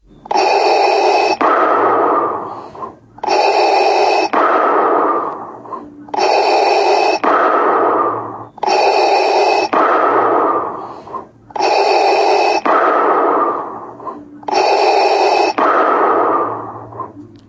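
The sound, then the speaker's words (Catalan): Darth Vader's heavy, mechanical respirator breathing, loud, repeating in a slow, steady rhythm of hissing inhales and exhales, about six cycles with no voices. “O millor dit, la respiració aquesta de refredat malcurat que té.”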